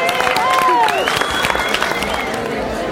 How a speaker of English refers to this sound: Let's give all of our fantastic movie veteran artists a round of applause.